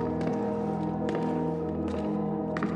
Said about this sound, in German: Doch hier drinnen herrscht Stille. Sie ist so einnehmend wie ein Ort, der seit Jahrhunderten Geschichten bewahrt. Deine Schritte hallen durch die Gänge.